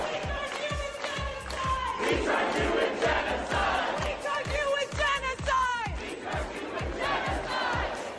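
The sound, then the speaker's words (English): Palestinian activists storming the New York Times building in protest chant and shout loudly in a steady, rhythmic cadence, many voices overlapping with raised, strained tones and a pounding beat underneath throughout. “Right, we're moving right across to GB now, GB News, and Palestinian activists stormed New York Times building in a furious protest at complicity in Israel's genocide.”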